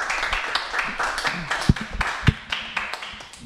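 A short burst of applause from a small group, with dense, irregular hand claps and a couple of heavier thuds standing out, fairly steady in loudness and fading slightly at the end.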